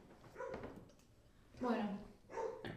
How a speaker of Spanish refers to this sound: Bueno, con los ladridos del perro y siendo la hora.